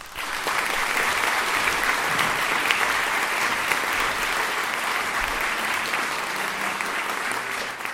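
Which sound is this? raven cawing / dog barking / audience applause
audience applause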